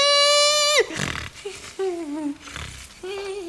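Loud, labored nasal breathing caused by a deviated septum: long whistling, buzzy tones sliding lower in pitch alternate with rough, noisy rushes of air, repeating in a heavy rhythm with no talking.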